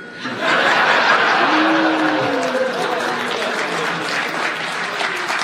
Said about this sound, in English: I don't know why you applaud